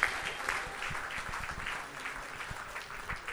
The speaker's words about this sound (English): Let's give God glory. Let's give a round of applause. Amen.